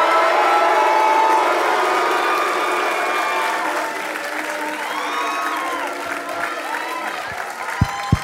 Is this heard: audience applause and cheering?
yes